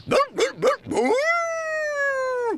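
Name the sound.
dog barking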